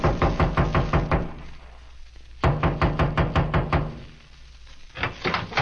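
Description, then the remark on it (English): Three bursts of firm knocking on a trailer door, each a quick run of loud raps separated by short pauses, clear with no voices; private detective Philip Marlowe knocks after walking through a clearing. “I walked through the clearing and knocked on the door.”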